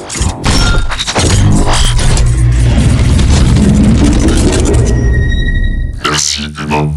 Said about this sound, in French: Le traîneau il bouge, il se change là, il, on dirait un Rubik's Cube géant ! Le traîneau il se change complètement là ! Le traîneau du Père Noël c'est un Transformer !